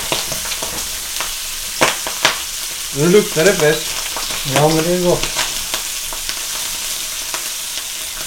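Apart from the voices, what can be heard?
pork sizzling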